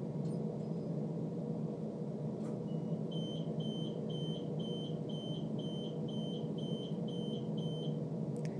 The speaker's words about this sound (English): Buzz of the doors, but no one getting off.